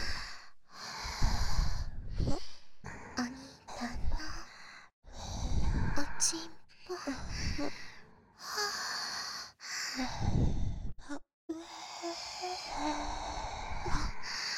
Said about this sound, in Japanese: ほら、吐息だけじゃなくて、なめなめもしちゃいました。